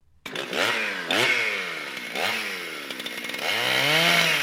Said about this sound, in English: And the chainsaw. Why is it running down the hall with a chainsaw going, Projectionist? That seems a little dangerous, doesn't it?